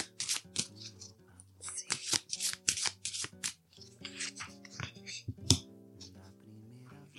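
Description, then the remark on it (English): A deck of cards being shuffled, with repeated crisp riffling bursts and soft flicks over several seconds, while gentle music plays steadily underneath. “Okay, so let's shuffle these cards.”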